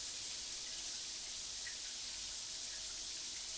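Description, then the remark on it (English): A steady, continuous hiss of running shower water, even and unbroken throughout, fairly soft and heard on its own with no voices. “And as you feel that shower, you can feel the warmth settling in.”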